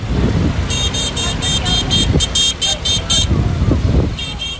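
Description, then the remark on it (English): A car horn beeps rapidly again and again over the steady rumble of engines on the Coastal Rashid Road, packed with families fleeing south on foot, pushing carts or riding trucks stacked high with mattresses and clothing, with voices murmuring in the crowd around it. “As Palestinians flee south, the Coastal Rashid Road is packed with families, some walking with only a few possessions, others pushing carts or riding trucks stacked high with mattresses and clothing.”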